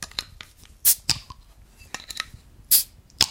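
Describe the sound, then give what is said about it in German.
A beer bottle being opened: several sharp, bright metallic clicks and clinks of an opener working at the cap, spaced irregularly, with no one speaking. “So, kannst du mal bitte aufmachen?”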